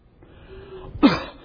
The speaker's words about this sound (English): The cough. Can hardly get a sentence out, but we cough.